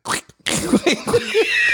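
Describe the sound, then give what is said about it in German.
Two shoes are rubbed together to imitate a fart, producing a string of squeaky, fart-like blurts: a short burst, a brief pause, then several bending squeals running fairly loud. “Also zum Beispiel so mit so zwei Tonschuhen aneinander reiben, so, die sich natürlich komplett anders anhören und so.”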